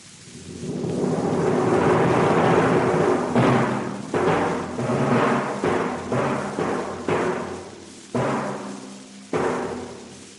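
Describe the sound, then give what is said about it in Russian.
Timpani and bass drum imitate hunters' gunshots: a rumbling roll swells for a few seconds, then about ten loud, booming strikes follow at irregular intervals, each ringing briefly before the next. No voices. “Выстрелы охотников литаврами и большим барабаном.”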